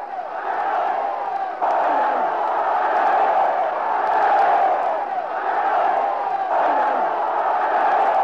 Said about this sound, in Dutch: Maar het geschreeuw van de Duitsers klinkt niet anders.